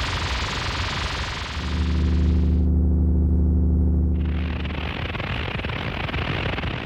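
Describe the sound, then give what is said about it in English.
Simulated tinnitus, provided by the British Tinnitus Association: a steady, bright hiss of static gives way midway to a low, droning buzz-hum for about a second and a half, then the hiss returns and continues to the end. “This is a simulation of what some different cases of tinnitus might sound like.”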